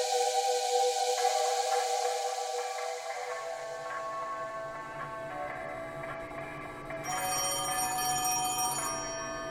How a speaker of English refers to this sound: Damn phone is ringing. Get your ass out here. Pick it up for fuck's sake.